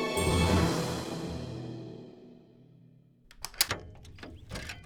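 A heavy oven door is shut quickly, slamming with a loud metallic clang that rings and slowly fades, followed by several quick, sharp clanks and rattles.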